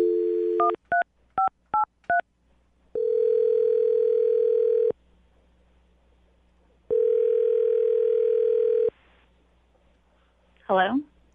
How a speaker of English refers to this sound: All right, are you about ready to call her? Yeah, let's do it. Here we go. I'm going to dial the phone number and let you do your thing. All right.